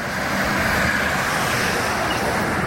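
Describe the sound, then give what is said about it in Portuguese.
A car rolls along a road, its steady, loud hiss of tyres and engine filling the whole moment without rising or fading, and no one speaks. “Onde o carro está passando?”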